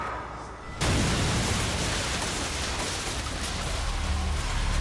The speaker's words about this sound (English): But when the two large clocks outside the station struck 10:25 a.m., an explosion erupted from the waiting room.